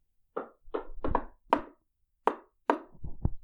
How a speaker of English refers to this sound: And she fluttered up to the door and gave it a couple knocks.